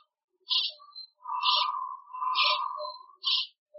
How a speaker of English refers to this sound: The ultrasound recordings have been slowed down to be in the range of human hearing. Sometimes they put the mask down and up again, and then they continue singing. But if another bat approaches, they start making noise with their wings.